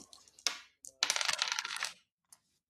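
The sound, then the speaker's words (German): Dice clatter across a hard tabletop as a player rolls for a Sinew check in a game: a couple of sharp clicks, then a dense burst of rattling tumbles lasting about a second, and a final small tap. Fairly loud, with no voices. “Wahrscheinlich muss ich jetzt würfeln.”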